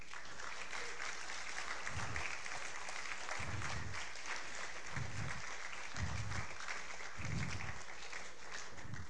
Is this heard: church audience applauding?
yes